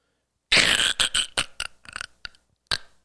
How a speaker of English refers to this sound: You know what that is? That's the ice cracking.